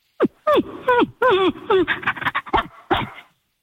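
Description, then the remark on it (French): A person does a dog impression: a few short whining yelps with falling pitch, then a quick run of breathy panting huffs and a final yelp. “Je sais faire le chien parfaitement.”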